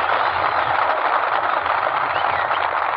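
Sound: train sound effect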